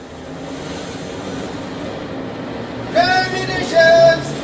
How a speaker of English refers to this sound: The Tuppenny... Tube? The electric underground train. Go from here on the CLR. The Central, that is, Father.